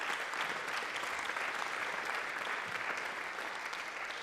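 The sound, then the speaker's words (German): Steady audience applause, a dense wash of many hands clapping at a constant level throughout, with no voices standing out. “Genau wie im Bereich Software, ja, Applaus.”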